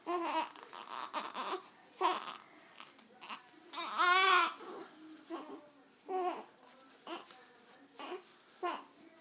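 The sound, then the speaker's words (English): A baby fusses during a wet diaper change, in short, whiny bursts that rise toward crying without fully breaking into it, with one longer, louder wavering wail in the middle and brief pauses between. “It's like he's not fully crying yet, huh?”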